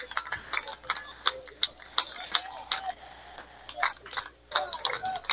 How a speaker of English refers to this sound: Crowd clapping along.